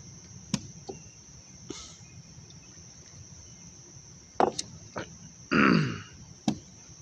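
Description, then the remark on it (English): A chair creaks and knocks: a few sharp wooden clicks, then a longer strained creak as weight shifts, and a final tap over a faint steady high whine. No one speaks. “Please just don't break that chair.”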